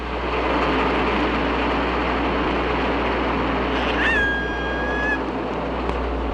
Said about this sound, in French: Sur cet extrait, vous avez entendu un bateau, tout d'abord, qui passait assez éloigné des hydrophones, et puis une première vocalise d'orque, une seconde, une troisième.